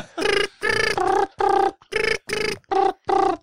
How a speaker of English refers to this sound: I've got a sneaking suspicion where Mr. Rogers is, so let's just give him somebody a phone call here. Just put this number in here. Just let this ring.